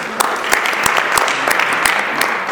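A crowd at a twelve-step program meeting applauds a speaker celebrating 32 years of abstinence, a dense wash of many hands clapping at an even loudness with sharper individual claps popping out now and then; no one speaks.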